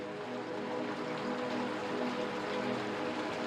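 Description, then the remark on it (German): Steady rain patters outside in a soft, continuous wash, even and unbroken, heard alone without any voices. “Draußen prasselt der Regen weiter, leise, geduldig.”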